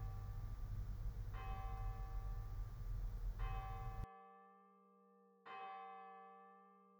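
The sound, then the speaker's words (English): A church bell strikes three times at a slow, even pace, each clear ringing tone lingering and fading. Steady background noise under the first two strikes drops away before the last. “Be aware of your need and return to this whenever you hear the bell, becoming more aware again of your desire.”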